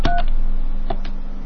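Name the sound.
touch-tone phone keypad dialing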